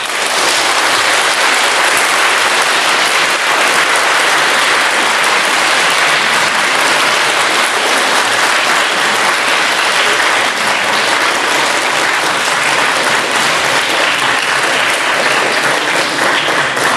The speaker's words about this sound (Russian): Спасибо за ваши аплодисменты, мне они очень приятные.